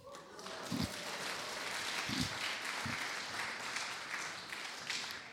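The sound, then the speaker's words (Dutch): Audience applause: a steady wash of many hands clapping throughout, with a few heavier low thumps standing out early on. No one speaks over it. “Nou, ik hoop niet dat je klapt voor mijn prestatie.”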